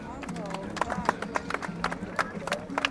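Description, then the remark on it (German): Horses moving around a small arena, their hoofbeats landing in a steady, rapid rhythm while a person talks over the top. “So, mehr können wir hier leider nicht zeigen aufgrund der kleinen Arena, aber ich finde, das haben die Pferde ganz toll gemacht.”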